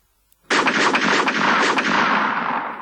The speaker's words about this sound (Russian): Когда раздались пистолетные выстрелы, Вася рухнул на землю и спрятался за цветочную клумбу.